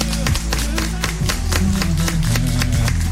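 An audience applauds steadily for about three seconds, the claps landing as fairly even, sharp bursts, with a low droning tone running underneath and no speech.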